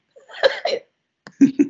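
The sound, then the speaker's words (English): A person stepping away from the microphone to cough: two harsh coughs, a short pause, then a quicker run of three or four rough coughs, all fairly loud with no talking over them. “I step away from the mic to breathe. Yeah. Mic to cough.”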